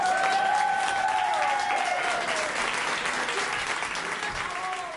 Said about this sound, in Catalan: I ara sí, arribem amb un gran i fort aplaudiment a aquesta gran cantant